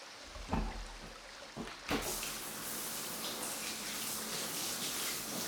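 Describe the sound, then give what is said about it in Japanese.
Running water rinses off soap foam and semen, starting after a couple of soft splashes and then pouring as a steady, hissing spray, with no one speaking. “泡も精液も洗い流して、綺麗に。”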